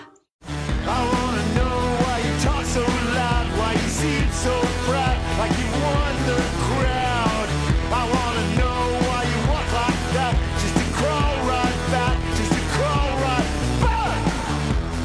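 An alt-country rock song plays after a brief silence, a full band with driving drums, bass and guitars under a wavering sung vocal, loud and steady throughout.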